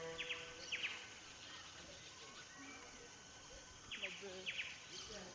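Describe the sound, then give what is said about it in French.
Jungle birds call in quick, high chirping bursts that come in two pairs, a few seconds apart, over a steady, faint background murmur of ambience, in the lush tropical grounds of the Taj West End hotel in central Bangalore. “Un vrai havre de paix avec une végétation tropicale foisonnante, une bulle verte en plein centre-ville, où les bruits des oiseaux de la jungle remplacent le concert de klaxon des rickshaws.”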